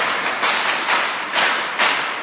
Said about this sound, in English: Now you see what happened here. When we all clapped, our thoughts are united. We are all on the same page.